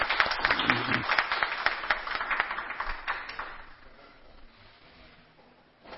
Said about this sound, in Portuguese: Uma salva de palmas para todos nós aí. Né?